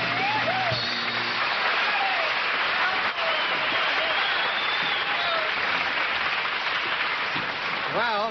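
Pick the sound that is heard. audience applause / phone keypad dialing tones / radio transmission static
audience applause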